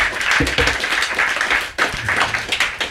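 A dense wash of applause from a crowd, steady and fairly loud for a few seconds, with a brief dip midway before the clapping picks back up.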